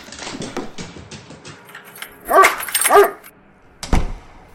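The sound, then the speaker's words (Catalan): A dog named Bruc barks twice in quick succession, loud and sharp, after a stretch of low rustling and shuffling; a dull thump follows near the end. The dog is being taken out. “Ah, doncs vaig a baix a buscar quatre cosetes i de passada puc treure el gos.”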